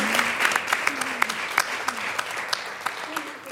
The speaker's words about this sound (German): Ja, darf ruhig geklatscht werden.